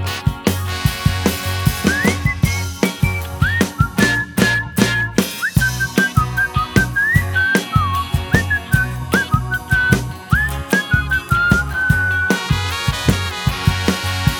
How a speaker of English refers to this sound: And when I stopped and whistle, she'd pucker up and do the same.